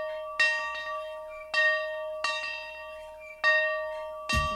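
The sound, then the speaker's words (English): A dinner bell rings out in five clear, resonant strikes at an uneven pace, each tone lingering and fading before the next. It is fairly loud, with no voices. “The dairy farm families of AMPI are excited to ring the dinner bell and share their award-winning butter and cheese with you.”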